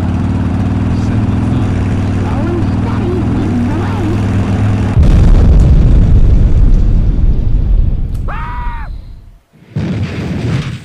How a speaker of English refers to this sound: RPM for too long and exploded your engine.